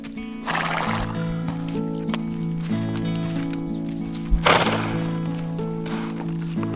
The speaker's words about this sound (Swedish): Det är bara hästen som vill komma in, säger Bubblan. Hästen har gått alldeles för sig själv och betat under stjärnorna. Nu vill hon komma in till de andra.